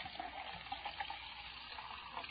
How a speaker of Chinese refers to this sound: 来来客厅坐啊，我给你倒一杯蜂蜜茶，你边喝边等。